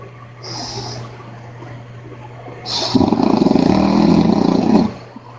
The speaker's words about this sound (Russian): Ой, извини. Я чуть напердел тут.